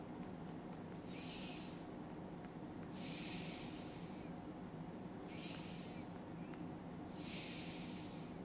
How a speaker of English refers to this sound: Let's think about the soul by closing our eyes, just relaxing, becoming focused, and paying attention to our breathing. Breathing in and out just for a few moments, getting into the rhythm of the energy of life.